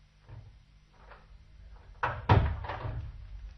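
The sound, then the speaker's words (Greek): A door swings shut with a solid thunk as a small man with a thick black beard steps out of it, followed a moment later by a sharp clack as he locks it. Soft shuffling precedes it, and no one speaks. “Πλησίασα με αδιάφορο ύφος και ξαφνικά βγήκε από την πόρτα ένας μικρόσωπος ανθρωπάκος με πυκνά μαύρα γένια. Την κλείδωσε μόλις βγήκε και με κοίταξε με κάποια έκπληξη.”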